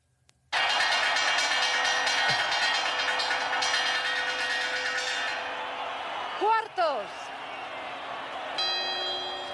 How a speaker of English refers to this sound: Wait. That's a chime. No, wait. Those are the quarters now. Ding dong. There are four of those. See as the clock gets to 12.